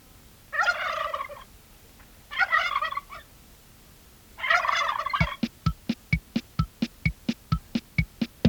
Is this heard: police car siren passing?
no